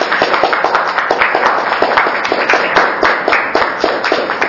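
A sustained round of applause from meeting attendees for a presenter, many hands clapping densely and steadily throughout, fairly loud, with no talking.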